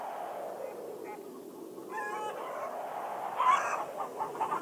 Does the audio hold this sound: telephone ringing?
no